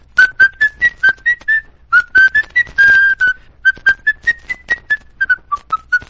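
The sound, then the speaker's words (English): A person whistles the tune of Yankee Doodle, with short, clear notes in a bouncy rhythm and brief pauses between phrases, loud and alone with no talking. “I can whistle Yankee Doodle.”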